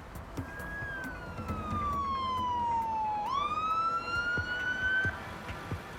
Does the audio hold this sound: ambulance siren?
yes